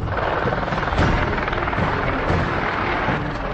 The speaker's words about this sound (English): It's early morning in South Africa's Kruger National Park. The morning stillness is broken by the quiet hum of helicopters.